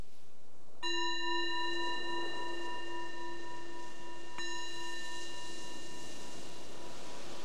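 A meditation bell is struck twice, a few seconds apart, each strike ringing out clearly with a long, shimmering sustain that slowly fades. No voices, just the resonant tone alone.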